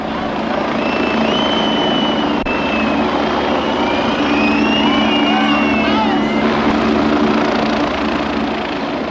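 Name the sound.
helicopter flying overhead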